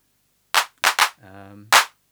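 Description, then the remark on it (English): Dry drum machine hand claps with the hand clap reverb switched off, four sharp bursts in an uneven pattern with short tails. A low, buzzy pitched tone sounds between the third and fourth claps. “I'm going to leave the hand clap reverb off now because we can listen more clearly to the other part.”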